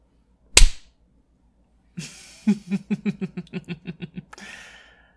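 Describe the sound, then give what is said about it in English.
A single sharp, loud hand slap on bare buttocks rings out, followed after a pause by a quick series of rhythmic, breathy voiced gasps that fade into a soft exhale. “Love slapping your ass as you go.”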